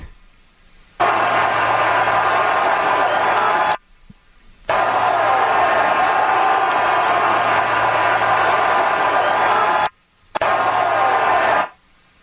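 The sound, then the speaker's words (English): A steady, dense stadium crowd roar during a female streaker's run, loud and continuous, broken by a few abrupt silent cutouts, as if played back from a broadcast. “Yeah, there's no extra audio. It's literally just crowd noise.”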